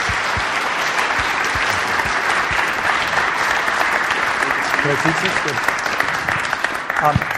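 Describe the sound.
An audience gives a sustained round of applause, dense and steady clapping at a fairly loud, even level for several seconds, with a few voices faintly mixed in.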